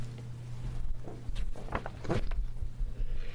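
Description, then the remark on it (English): A sneeze bursts out midway during a committee hearing, a sharp, breathy blast over a steady low electrical hum, with faint shuffling around it and no talking. “Excuse me. Gesundheit.”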